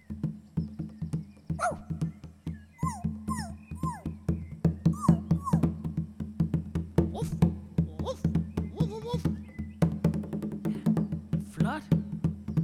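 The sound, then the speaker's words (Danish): Children's voices imitate a small puppy with high, squeaky yips and whimpers in quick repeated bursts, over a steady low background hum. “Ja, op og prøv at være en lille sød hundevalp.”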